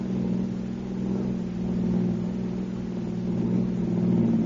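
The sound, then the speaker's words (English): A car engine drones steadily at a low pitch with rough road rumble and faint rattling underneath, the level rising and falling slightly as the car drives along a bumpy road. No one speaks. “Yeah, it's a bumpy road.”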